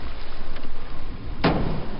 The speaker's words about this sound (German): Mit solchen Schallkanonen durchsuchen Wissenschaftler die Meeresböden nach Öl- und Gasvorkommen. Dabei sind die Geräusche in ihrem Kopfhörer noch abgemildert, damit sie keinen Hörschaden erleiden.